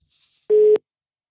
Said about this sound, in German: Und da wollen wir doch einfach mal schauen, wenn es jetzt, und da klingelt's.